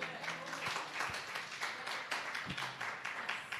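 A group of people applauding, a dense, steady patter of many hands clapping that carries on evenly for a few seconds, heard from a short distance and fairly soft.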